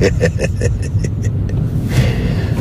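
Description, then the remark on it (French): A steady, low engine rumble fills the cabin of a moving car chasing a sheriff's car, with a quick series of soft rhythmic clicks early on before the drone carries on alone. “C'est la première fois que je prends en chasse une voiture de shérif.”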